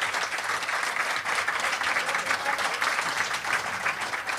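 Sustained applause from a live show audience, a dense, steady patter of many hands clapping at once, fairly loud, with no break over several seconds.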